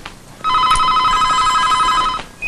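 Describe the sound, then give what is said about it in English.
A telephone rings once, a loud, steady electronic trill lasting under two seconds before cutting off, with no voices around it. “answers the phone.”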